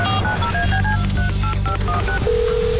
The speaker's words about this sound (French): Et on va tout de suite passer un coup de téléphone